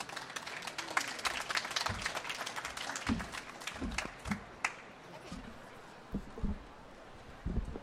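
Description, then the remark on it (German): An audience applauds author Uli Hannemann before he reads from his book Wunschnachbar Traumfrau, with dense, steady clapping that gradually thins out toward the end, leaving a few scattered claps and some low thumps and shuffling. “Ich bitte um einen ganz herzlichen Applaus, Uli Hannemann.”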